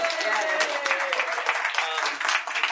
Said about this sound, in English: Round of applause.